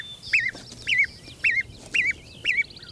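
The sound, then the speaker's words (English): A hen clucks in a steady, evenly spaced rhythm, five short calls in a row, while fainter high peeps from her downy chicks, which follow her around, flicker around her against a quiet background. “So, downy chicks following their mother around are precocial.”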